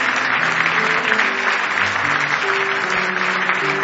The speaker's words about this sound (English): Give the Lord a good hand clap of praise if you love him this morning.